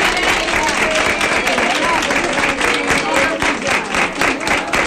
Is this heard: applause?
yes